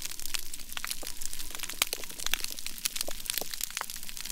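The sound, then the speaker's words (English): Dense, continuous crackling of hundreds and thousands of snapping shrimp clicking their claws on a healthy coral reef, a sharp fizzing mass of tiny clicks and pops layered over one another with no voices, steady throughout. “that's the sound of hundreds and thousands of snapping shrimp all clicking their claws”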